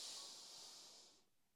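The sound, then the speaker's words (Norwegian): A single long, airy inhale through the nose, drawn steadily for just over a second before tapering off into quiet. It sounds soft, with no talking. “Da puster du godt inn med nesa.”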